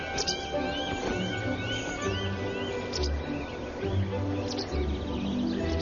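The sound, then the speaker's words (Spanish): Falcons at the start of their breeding season near the end of winter give a run of shrill, arching calls in quick succession, over a steady low background rumble with a few fainter bird notes. “Los halcones ya han empezado con su planificación familiar, señal inequívoca de que el invierno toca a su fin.”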